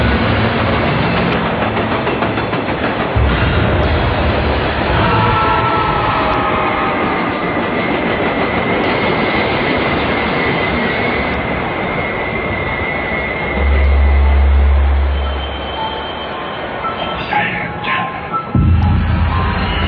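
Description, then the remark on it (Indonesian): A train rumbles steadily along the rails, loud, with a continuous low roar and rattling carriages, a brief heavier low thump midway, and no voices. “Salah satu warga di sana bilang padaku kalau mau berpergian menggunakan kereta, lebih baik jangan memakai kereta malam.”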